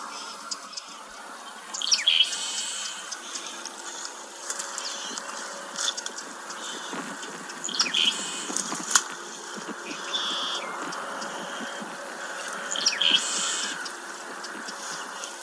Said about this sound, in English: Their song is a collection of raspy buzzes and trills, typical of sparrows. Let's have a little listen.